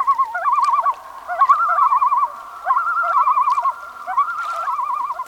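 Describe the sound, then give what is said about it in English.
A loon gives its wavering, tremolo call several times in succession, loud, the quavering notes rising and falling over a steady background hum with no voices. “If you succeed in bringing the trout to hand, the loon will wait for your release in hopes of making a meal of the tired fish.”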